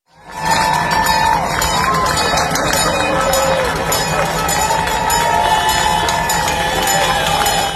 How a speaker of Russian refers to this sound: Я в интернете видел видео, снятое рядом с одной из нью-йоркских больниц. На кадрах видно, как врачи выбежали на минуту подышать свежим воздухом на улицу, а проходящие мимо люди начали им аплодировать. Вот давайте послушаем, как это было.